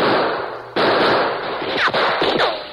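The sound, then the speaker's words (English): A loud, dense barrage of gunfire in a shootout around a shack, shots answered toward its window, with rapid overlapping cracks, broken by a few sharp new volleys and whining ricochets that sweep downward in pitch. No one speaks. “Answer those shots, Tonto. Keep them at that window.”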